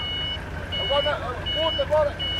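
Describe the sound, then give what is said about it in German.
A forklift's reversing beeper sounds a steady, high-pitched tone over a low engine rumble, with mid-pitched voices rising and falling around it at the fish market docks in Peniche after midnight, as forklifts carry loaded plastic tubs of fish into the market hall. “Gabelstapler bringen die vollbepackten Plastikwannen in die Markthalle”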